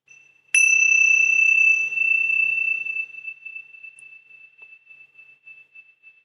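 meditation bell being rung

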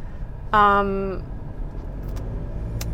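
car interior driving rumble

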